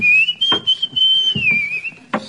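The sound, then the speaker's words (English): A steady, tuneless human whistle holds one wavering pitch, drifting slightly without any melody, while a few soft knocks sound underneath. “But his whistling has no melody whatsoever.”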